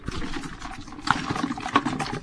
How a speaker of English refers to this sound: That's the duck floating in the melted ice. And you can hear that ice. That's that's water in two different forms there. You can hear the liquid sloshing around, but you can also hear the solid frozen water banging around.